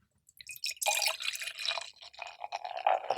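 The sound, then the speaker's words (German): Beer crackling and fizzing in a glass: a dense, steady sizzle of tiny bright pops that starts abruptly after a short silence and continues without pause, with no voices. “Ihr hört das gerade nicht, ihr beiden, aber das ist der absolute Hammer, das knistert in den Ohren.”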